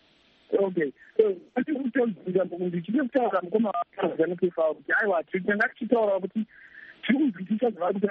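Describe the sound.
Voices talking over a telephone line sound thin and band-limited, with a brief steady electronic tone near the end before the talk resumes.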